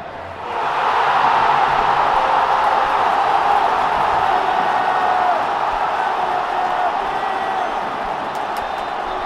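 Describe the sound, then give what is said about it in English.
A big football stadium crowd at a Barcelona match roars and cheers continuously after a brief quiet start, a dense, loud wash of voices that holds steady for several seconds before easing slightly. “Already, Dembélé is really revving the Barcelona team and crowd up.”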